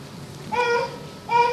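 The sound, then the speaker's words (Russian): Two short, high-pitched baby vocalizations, a sustained coo followed by a briefer one, rise clearly above a quiet room hum. “замечательный малыш”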